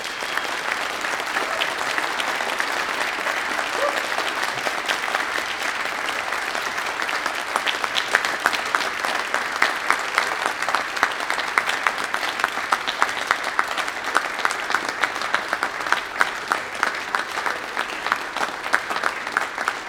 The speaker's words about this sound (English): You may now offer your applause to all of these graduates.